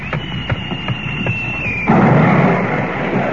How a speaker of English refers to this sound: Now do you believe me? That was a shell fired across your bow.